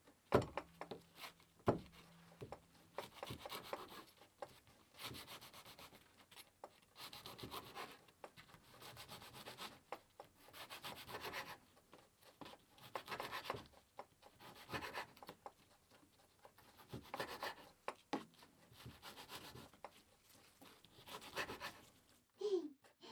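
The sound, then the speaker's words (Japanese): A kitchen knife saws through a loaf of bread in a steady series of dry rasping strokes, some louder than others, continuing for over twenty seconds with no one speaking. “包丁よ、パンも切って。”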